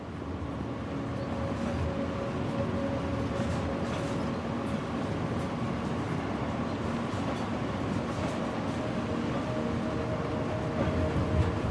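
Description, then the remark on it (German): A train rolls steadily along the rails through the French countryside after leaving Paris, as the rain gradually fades, with a continuous low rumble and faint rhythmic clatter, heard from inside a carriage, with no talking. “Der Zug fährt durch die verschlafene französische Landschaft.”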